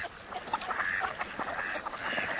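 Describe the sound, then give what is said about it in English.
A busy chorus of ducks calling, overlapping quacks and nasal chatter running continuously at a moderate level, with no one speaking. “When you stop by a lake or saltwater beach this fall, keep an eye out for dabblers and divers.”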